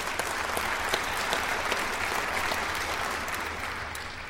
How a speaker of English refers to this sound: And yes, you may clap.